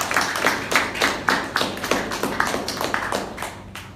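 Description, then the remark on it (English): A small audience applauds at a Toastmasters meeting, their claps landing as distinct, fairly quick beats for a few seconds and fading slightly at the end, with no talking. “Round of applause to all of you.”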